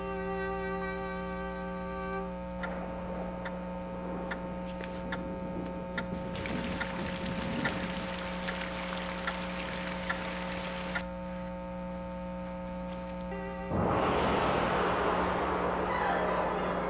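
Muffled underwater bubbling of air bubbles rising as a person sinks deeper into the water after falling and slamming against rocks, with irregular pops and gurgles over a steady low drone, ending in a louder rushing swell of water. No one speaks.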